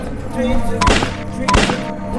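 Two sharp, loud bangs about two-thirds of a second apart, like gunshots, ringing out over a steady backdrop of music or noise.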